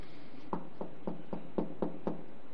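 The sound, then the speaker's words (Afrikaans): Seven quick knocks on a wooden surface in an even, steady rhythm, moderately loud, over a faint background hiss with no one speaking. “Die kloppende Christus, wat gaan jy doen met die kloppende Here Jesus Christus?”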